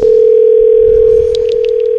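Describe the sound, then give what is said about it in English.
A phone line ringing through on the caller's end: one steady electronic ringback tone held for about two seconds, loud, with no voices. “So my number is coming up as 666 right now on their phone.”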